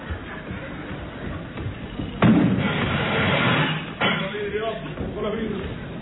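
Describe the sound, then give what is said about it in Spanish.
A door is shut by a cadet with a sudden loud thud, followed by a short burst of noisy rumble that settles into quieter background shuffling, with indistinct voices. “Cadete, la puerta. ¿Se la traigo? ¡Que la cierre, idiota!”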